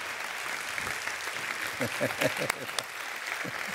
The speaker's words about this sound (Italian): Un applauso ai tecnici.